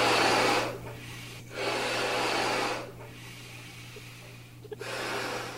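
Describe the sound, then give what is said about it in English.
A sound effect played on the game show What is the Wind: someone blows up a balloon in long, forceful puffs of breath, three or four strong exhales broken by brief pauses to inhale, with a steady low hum underneath and no talking. “That is somebody blowing a balloon!”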